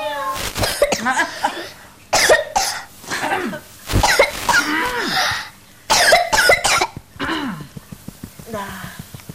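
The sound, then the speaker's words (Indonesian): Several bursts of harsh coughing come in uneven clusters, with short pauses between them and a few rough, throaty vocal sounds mixed in. “Batuk ya kamu ya?”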